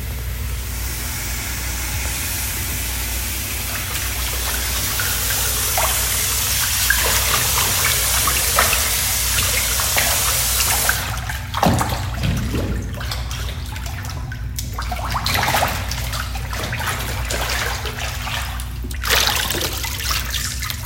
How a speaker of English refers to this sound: audio to set the tone for papermaking that I recorded at a visit with E. Ainsley at Fresh Press, filling the vat with water, mixing the pulp